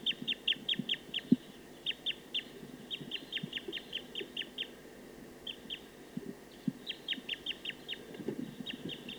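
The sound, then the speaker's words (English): A wild bird in a tree about 50 meters from a bird-netting site calls rapidly in repeated runs of short, high-pitched chips, pausing briefly between bursts, over soft low rustling and thumps. Nobody speaks. “So recording a wild bird.”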